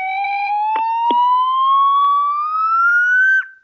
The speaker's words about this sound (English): What is that, a slide whistle? I don't know what it's called.